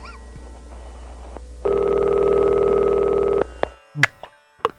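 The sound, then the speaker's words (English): A single long burst of an international telephone ringing tone on a call dialed with a country code, a steady, buzzy mid-pitched purr lasting under two seconds over faint line hiss, followed by a few short clicks and blips. “How good we have a ring.”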